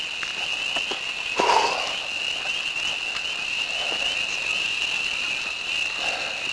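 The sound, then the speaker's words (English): A chorus of frogs by a lake keeps up a steady, high-pitched trilling throughout, with a few soft brushing or footstep-like sounds of someone walking breaking in briefly. No one speaks. “I hear the frogs.”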